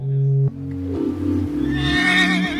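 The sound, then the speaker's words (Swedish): A privately owned mare whinnies loudly with a shrill, quavering call that rises toward the end, set over sustained low tones, with no one speaking. “Det är min egen häst, men hon är inte jättebra i tävling tyvärr.”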